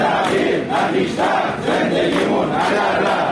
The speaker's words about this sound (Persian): اینجا در اهواز هم فریادهای کارکنان و کارگران قرارداد موقت شرکت بهره برداری نفت کارون.